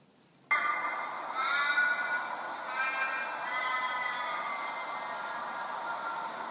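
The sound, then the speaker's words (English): An Australian crow gives a long, drawn-out wailing call, loud, with a strained, wavering, almost catlike tone that trails off slowly. No one speaks. “This is what the crows sound like here.”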